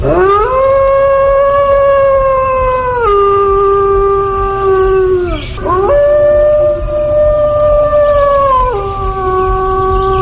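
A male wolf howls, calling to a female, in long, sustained tones that hold steady, drop in pitch, break briefly, then rise again into further drawn-out howls, loud with no other voices.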